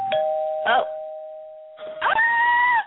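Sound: doorbell ringing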